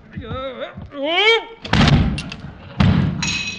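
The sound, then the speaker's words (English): A heavy bust of Caesar crashes to the floor with two loud thuds about a second apart, following strained vocal exclamations from someone struggling with its weight while trying to lift it back onto its pedestal. “Set Caesar up in the next alley. Mr. Conklin's got another shot coming.”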